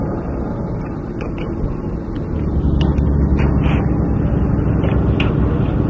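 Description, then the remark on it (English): Steady low rumble of engine and road noise inside a moving Greyhound intercity bus travelling from Boston to Hartford near 5 p.m., swelling slightly partway through, with faint scattered rattles and no voices. “It was near 5 p.m. on board Boston to Hartford Greyhound bus.”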